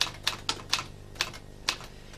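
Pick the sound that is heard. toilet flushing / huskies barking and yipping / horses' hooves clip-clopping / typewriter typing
typewriter typing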